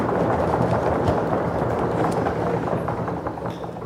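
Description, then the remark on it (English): An audience knocks on wooden pews to sound out Mary and Joseph knocking on door after door in the Christmas story. The knocking is a dense clatter of many overlapping hollow knocks in no set rhythm, loud and steady before easing slightly toward the end, with no voices. “And we could hear everyone knock on their pews to hear the knocking.”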